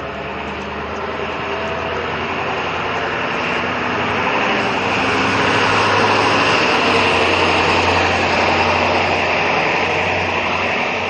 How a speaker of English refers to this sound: A lot of noise for a pickup truck. Oh, and a dog. Who would have thought?